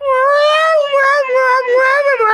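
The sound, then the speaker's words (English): A small kitten named Enrico cries loudly in one long, continuous wail lasting a couple of seconds, high and strained, its pitch wavering slightly up and down with no other voices. “He can have this small, very loud kitten named Enrico.”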